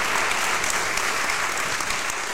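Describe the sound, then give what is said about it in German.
An audience at an Online-Marketing-Day event claps steadily and densely throughout to welcome a guest, a continuous wash of many hands with no pauses, fairly loud, with no voices standing out. “ich möchte zunächst mal meinen Gast begrüßen und ich hoffe, das Publikum wird dementsprechend applaudieren.”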